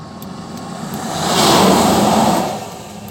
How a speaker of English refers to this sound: Here comes le truck. Turn on my blinker. And so he knows he doesn't have to run me over.